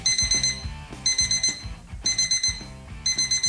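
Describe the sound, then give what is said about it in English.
An alarm clock rings in repeated bursts, each roughly half a second of bright, high-pitched electronic tones pulsing over a low throb, with short gaps between. Loud and steady, no voices. “Auch in ganz Deutschland wird diese Dösel-Taste, sprich Snooze-Taste, immer beliebter.”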